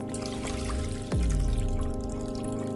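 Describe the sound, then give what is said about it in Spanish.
Two liquid gelatins of different colours and the same temperature are poured together into a bowl, a continuous splashing trickle that swells partway through with a sharp sliding tone as the level rises. No one speaks. “Para confirmar que es una magnitud intensiva, solo nos queda mezclar los dos contenidos en un bol.”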